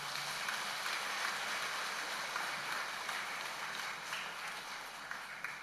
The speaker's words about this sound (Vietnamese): Nếu quý vị cam kết và hỗ trợ thầy thì hãy cho một tràng vỗ tay thật lớn.